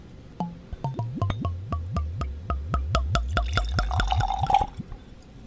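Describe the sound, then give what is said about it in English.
Henry McKenna whiskey glugs out of a bottle into a glass in a quick, rhythmic series of gurgling pulses, clear, ending with a short splash as the pour stops. “So let's pour a little whiskey and see what we can do here.”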